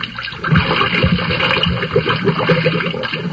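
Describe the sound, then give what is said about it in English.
A submarine boat with a man inside is shoved into the water, with steady sloshing and churning splashes that swell and roll on for a few seconds, with no voices. “All right, push him out into the water.”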